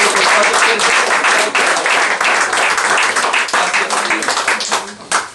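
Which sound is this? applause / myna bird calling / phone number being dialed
applause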